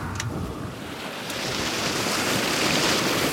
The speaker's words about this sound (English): In just 1 minute, 1,200 gallons of this crystal clear water flows from a pipe set deep down in the Chico Aquifer.